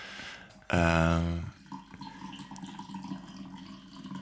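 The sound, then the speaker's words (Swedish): A short, strong burst of coffee pouring, with a rising hollow tone as a cup fills, then quieter trickling and faint background noise. “Det är alltså inte jag som kissar, utan jag får som häller upp kaffe.”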